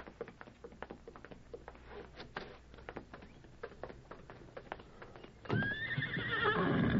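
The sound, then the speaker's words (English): Hooves clop steadily on hard ground in a patio for several seconds, then a horse lets out a loud, drawn-out whinny that rises and wavers before fading into snorting. “The horses are in the patio.”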